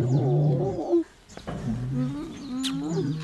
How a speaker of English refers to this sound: He's a 12-year-old African lion, big, powerful, ferocious.